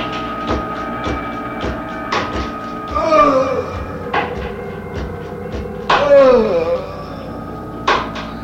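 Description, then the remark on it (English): A stake being hammered through a heart in a coffin in Transylvania: a steady run of heavy thudding blows about every half second, broken twice by longer strained, creaking squeals. “I can still hear the stake going through my heart as I lie in my coffin. Listen, you will hear it too.”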